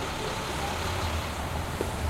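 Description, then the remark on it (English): A steady, dense wash of city traffic noise with a low engine rumble underneath, continuous and fairly loud throughout, with no distinct individual vehicles standing out. “And for Schaefer, these are closer to the sounds associated with cities, traffic, and transit, stuff like that.”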